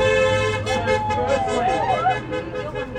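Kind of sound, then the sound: vehicle, car horns honking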